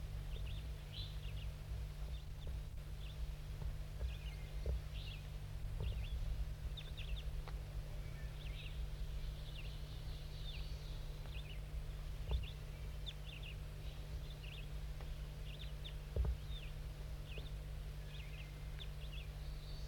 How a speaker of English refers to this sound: These are the calls of bird 5-3, very softly calling to the wild bird up in the trees above.